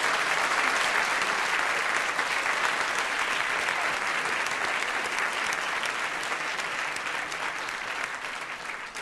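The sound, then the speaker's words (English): A large debate audience applauds steadily, a dense, continuous patter of many hands clapping at an even loudness that tapers slightly toward the end, with no voices standing out. “Don't need to give yourself another round of applause.”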